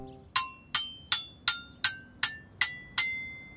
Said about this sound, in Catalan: Ara passem per la barana que fa clinc-clinc. D'acord, Mic. Passem per la barana que fa clinc-clinc. Hi ha una barana que té molts barrots. El Mic hi fa música.